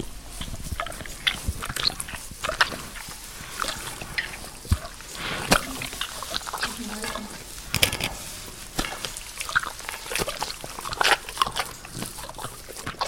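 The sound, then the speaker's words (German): A bear licks honey, with wet, sticky smacking and slurping in an irregular stream of short, crisp licks and occasional snuffling breaths, and no one speaking. “Es war natürlich ein Bär, der Honig schleckt.”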